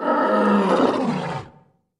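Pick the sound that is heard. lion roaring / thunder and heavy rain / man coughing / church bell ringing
lion roaring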